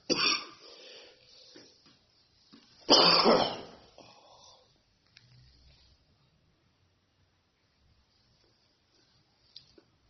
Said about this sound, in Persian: بحثای عرفانی خوندیم، فقط این سرفه سالانه که پیش میاد ما از عرفانی اینو فهمیدیم که اربعین میگیره. یه حساسیت فصلیه.